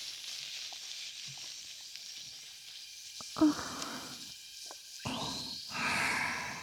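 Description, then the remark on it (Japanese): Soft fizzing and crackling of cold carbonated shampoo foam on hair during a scalp massage by two people, a steady sizzle broken by a few brief louder bursts of bubbling and rustling near the end. “髪の一本一本まで浸透する泡の効果は これで頭皮をリフレッシュできますよ。”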